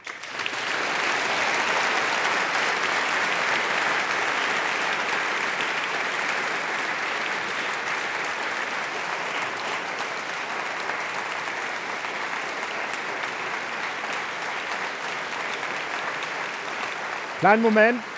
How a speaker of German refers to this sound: Kleinen Moment, sparen Sie sich noch ein bisschen Beifall auf, denn wir müssen natürlich auch nochmal ausdrücklich sagen, Herr Botschafter, herzlichen Dank, dass Sie gekommen sind in diesen so existenziellen Tagen für Ihr Land.